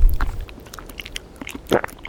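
Someone munches a crunchy snack outdoors in Brittany, France, with several crisp, irregular crackling bites, the loudest coming near the end. A low rumble of wind sounds briefly at the start.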